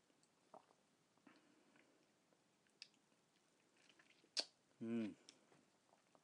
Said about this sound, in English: I'm doing a tea tasting cupping of Jungpana Muscatel Organic Spring First Flush 2014 Dialing Black Tea. And I will illustrate with a photo here without no filter. And take now a sip here and see how it tastes like.